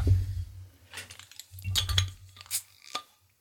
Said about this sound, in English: I'm going to open my second bottle